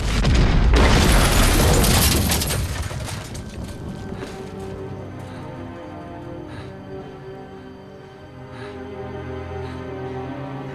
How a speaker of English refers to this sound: It is the scene of the explosion he has previsioned. He watches as the dreadful events play themselves out once more in his imagination.